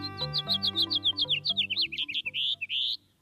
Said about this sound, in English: A typical house finch song has a raspy edge and tumbles forward in a jumbled series of notes. Especially during breeding season, the song has a sharp, buzzy note. Like at the end of this one.